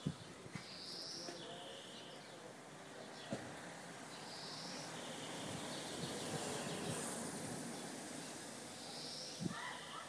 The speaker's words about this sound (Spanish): No sé si alcanzáis a oír los pajaritos. Yo vivo en una zona jardinada y vamos, vivo en un bloque de pisos normal y corriente, solo que está rodeado de jardines por todos lados.